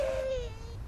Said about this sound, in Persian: خانم محترم، گفتم این بچه رو خفش کنید.